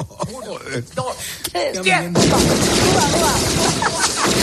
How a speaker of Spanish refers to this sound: Yo creo que muchísimo que el pobre pizzero sale corriendo pensando que hay un tiroteo de verdad. Cuando era el sonido de la peli lo que estaba poniendo con el mando el travieso McAllister.